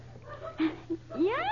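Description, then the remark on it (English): A person imitates an eagle's scream with a loud, rising, harmonic cry that sweeps upward in pitch, preceded by a few short, fainter vocal squeaks. “All right, now, eagles scream.”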